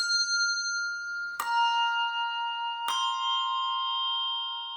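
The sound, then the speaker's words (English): Two clear bell strikes about a second and a half apart, each leaving bright, shimmering overtones that hang and slowly fade, with an earlier tone still ringing at the start. No voices. “When you and your neighbor argue, ring two bells for peace. When someone despises you, ring three bells for love.”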